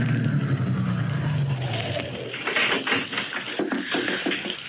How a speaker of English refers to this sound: One day, back in June of 22, a big car drove up to the only entrance. In the back seat of the limousine was William Marsden, wealthy lawyer and executor of the Greystone Estate, and he had come to inspect the ground.